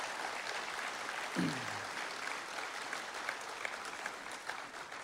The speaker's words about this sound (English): And can we just honor you for a second? Oh, yeah, we can clap for that.